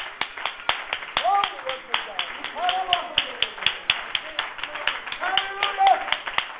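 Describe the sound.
A church audience claps their hands together unto the Lord in a steady, rhythmic beat, the sharp claps ringing out loud over a mix of voices calling and singing along.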